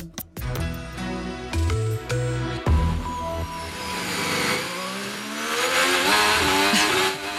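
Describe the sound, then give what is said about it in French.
A Formula 1 engine screams, its pitch dropping through quick downshifts into a chicane, then climbing again in a long, loud acceleration. No voices. “Bruit de moteur dans la chicane. On croyait la F1 démodée.”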